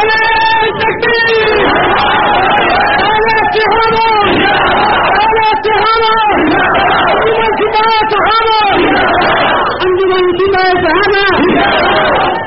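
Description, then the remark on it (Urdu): A large crowd, the audience at a speech, chants slogans in unison, loud, with rhythmic bursts of shouted voices rising and falling every second or so for the whole stretch. “شانین محترم, آپ نعرے جتنے کم لگائیں گے میں اتنا زیادہ آپ سے گفتگو کرنے میں کامیاب ہو جاؤں گا.”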